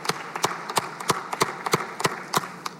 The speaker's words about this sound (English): Let's give him a round of applause and welcome him in this chamber.